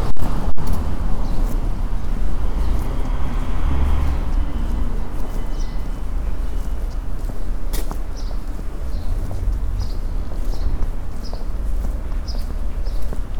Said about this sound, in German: Und ich halte mal kurz das Mikro hoch. Ihr hört Vögel. Und Straßenverkehr.